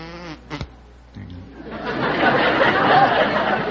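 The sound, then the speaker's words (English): A voice gives a short, low, droning buzz imitating a bumblebee, which is quickly drowned out by rising audience laughter and chatter. “Yes, I can do a bumblebee.”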